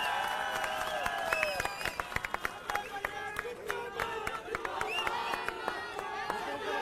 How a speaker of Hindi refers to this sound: तो अगली आवाज हम सब के शेर संजय सिंह की जोरदार तालियों से स्वागत करिए संजय भैया का।